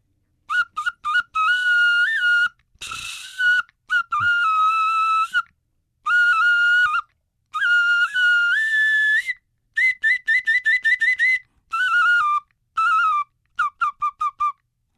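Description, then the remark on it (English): A modern replica flute carved from black bear bone plays part of a composition: bright, breathy piping notes, with sustained tones, slides and quick staccato runs that give a bird-like, fluttering melody. No one speaks. “Sure, I'll play that on the black bear bone.”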